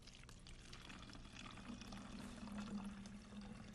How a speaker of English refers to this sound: Now we want to put some vinegar into this bottle. Just hold the bottle with one hand and pour with the other.